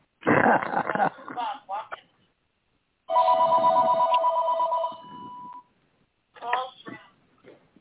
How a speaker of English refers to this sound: Somebody answer your phone